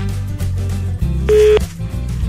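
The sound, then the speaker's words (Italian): A brief electronic telephone tone sounds once, clear and fairly loud, over a steady, droning low background, as a call is being placed. “io devo far dire neve, questa parola, a una persona che contatteremo ora al telefono.”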